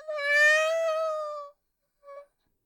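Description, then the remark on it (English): A person at a shut door imitates a cat's meow to be let in: one long, drawn-out, wavering mew lasting over a second, then a short, quieter mew after a pause, clear with no other sounds. “I meow and you let me in.”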